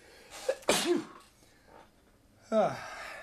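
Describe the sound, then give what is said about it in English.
A sharp intake of breath leads into a single loud sneeze on air at radio station CITR 101.9 FM, followed after a short pause by a brief voiced exhalation. “I'm about to sneeze.”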